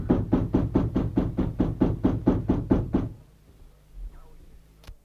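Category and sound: household object, banging on a door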